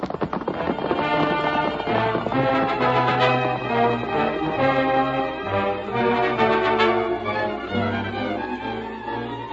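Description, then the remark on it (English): Horses, among them Silver and Scout, gallop off with a rapid, steady clip-clop of hooves that runs loud throughout, layered over dense, sustained tonal sound with no talking. “Come on, Tonto. Get him up, Scout. Come on, Silver.”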